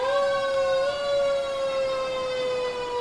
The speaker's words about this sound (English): Apparently there's an emergency here. A fire truck. I don't think he's trying to get to the Hamfest, though.